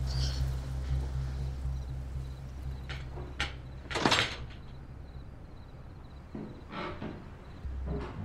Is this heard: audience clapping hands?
no